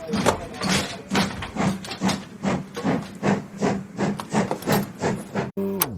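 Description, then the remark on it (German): A train rattles and jolts along in a steady, fast rhythm of hissing chuffs over a low droning tone, then a whistle starts up sharply at the very end. No one speaks. “Was gerade so zu hören war jetzt, dieses Geruckel und Gepfeife, das ist tatsächlich der Beginn des Hörspiels.”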